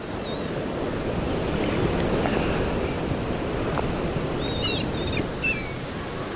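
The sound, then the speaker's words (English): Waves break and wash continuously on the Brighton seafront, a loud, steady roar of surf with gusty wind noise and faint gull-like bird calls chirping briefly in the background. “on the Brighton seafront”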